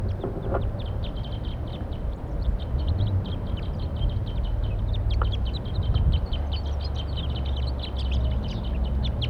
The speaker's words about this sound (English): Wild birds calling from a perch.